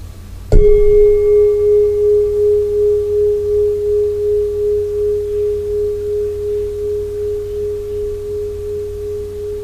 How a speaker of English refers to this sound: Firstly, listen to the sound of the bell and use this sound to help you settle and be aware. Just listen, here and now.